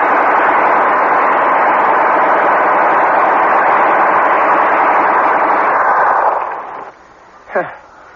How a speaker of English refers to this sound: I never seen nothing like it. Gatling gun can wipe out an army.